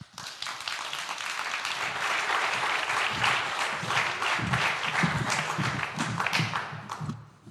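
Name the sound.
warm audience applause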